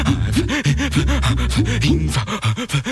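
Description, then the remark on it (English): Heavy, rapid panting breaths of a large dog standing and slobbering, in a steady rhythm and loud, with wet, breathy snorting sounds mixed in and no talking. “And he's just standing, slobbering and panting, looking at me.”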